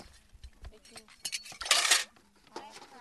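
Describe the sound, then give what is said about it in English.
Dishes and utensils clink and clatter, with a brief burst of splashing water in the middle, as a woman washes her dishes beside a small brackish pond in the village of Jamespur. “Saber is sitting next to a small brackish pond washing her dishes.”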